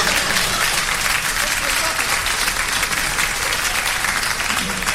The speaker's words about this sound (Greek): Αγαπητοί φίλοι, χειροκροτάτε τώρα.